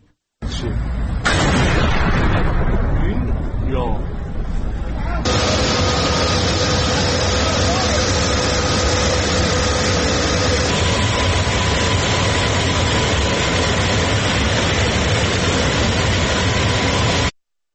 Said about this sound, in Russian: Ну и давайте посмотрим одно из видео момента взрыва в городе Исфахан.